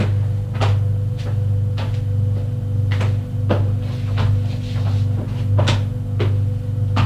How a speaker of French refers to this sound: Frappe à la porte du bureau. Entre. Il entre.